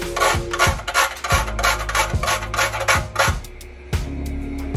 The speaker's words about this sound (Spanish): Y le voy a rallar un poquito de nuez moscada.